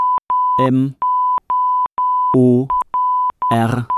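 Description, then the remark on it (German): A steady, high-pitched tone keys on and off in short and long pulses like Morse code, loud, with brief bursts of a voice breaking in three times over it. “M-O-R-S-E N. Morsen.”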